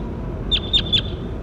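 bird, bird call

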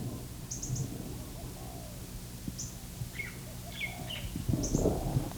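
bird, lace-necked dove cooing

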